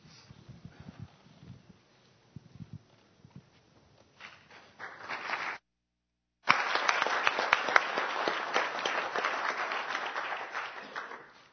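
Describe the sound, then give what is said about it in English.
An audience of men applauds a speaker coming up for a session on the book of Philippians: scattered claps and footsteps at first, swelling briefly, cutting out for a moment, then returning as steady, loud, dense clapping. “Gentlemen, I really appreciate your applause.”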